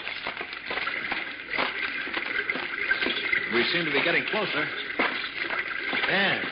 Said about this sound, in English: Oh, I think I hear running water. Yes, you're right. Come along.